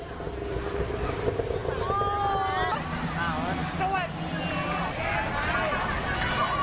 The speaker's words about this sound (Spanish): Este es el sonido ambiente en pleno mogollón, en una plena fiesta del agua. ¿En qué consiste? Bueno, aquí lo que se trata es de mojar a toda costa al personal sin que nadie se enfade.